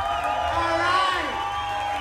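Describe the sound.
A crowd cheers and whoops with applause mixed in, a dense, steady roar of many voices that stays loud for the whole two seconds.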